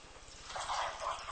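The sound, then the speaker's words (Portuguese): One cup of water is poured into a pan with two cups of sugar to make a syrup, in a steady, splashy stream that swells louder midway, with no one speaking. “E uma de água.”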